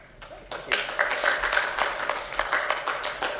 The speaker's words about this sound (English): Wow, I even get applause before I even speak. Thank you.